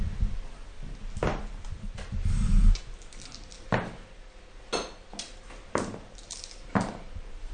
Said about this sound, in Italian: I rumori che state sentendo sono rumori dei dadi e delle pedine. Anzi, avviciniamo i microfoni vicino al campo da giuoco.